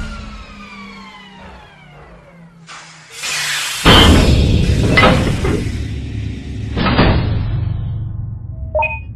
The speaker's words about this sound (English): We're safely docked in Space City. Thank you, Winnie. I think we figured that out when we heard the loud hissy thump sound.